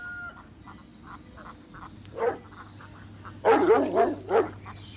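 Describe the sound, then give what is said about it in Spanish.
A dog lets out a few loud, sharp barks in quick succession near the end, after a quieter stretch of soft, regular chirping in the background. No one speaks. “¡Ese perro! ¡Cada día está más loco!”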